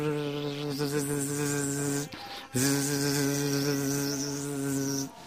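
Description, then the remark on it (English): Thousands of bees buzz around fresh flowers full of honey in a steady, loud drone with a slight wavering pitch, breaking off briefly after about two seconds before resuming just as strongly. No one speaks. “So thousands of bees are buzzing around.”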